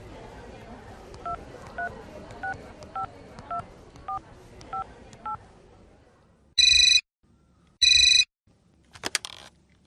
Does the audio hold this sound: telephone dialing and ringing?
yes